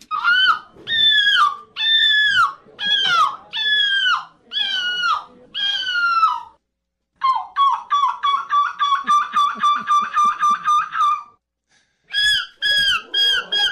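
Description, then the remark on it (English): A person loudly imitates a seagull at a seagull imitation call contest in Belgium: about seven drawn-out wailing cries, then a fast run of short yelping notes, a brief pause, and a few more cries. “People come from around Europe to be a part of the seagull imitation call contest, where these people come to Belgium and try to imitate the sound of a seagull.”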